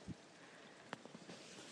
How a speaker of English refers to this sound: It's raining.